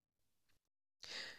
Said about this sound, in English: So it's a yawn. I can hear you.